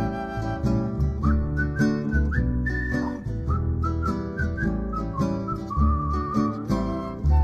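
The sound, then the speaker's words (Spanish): A person whistles a bright, wandering melody over a full, steady musical accompaniment, the whistled tune gliding between notes and sitting just above the instruments. “Con mi boca puedo hablar, cantar y silbar.”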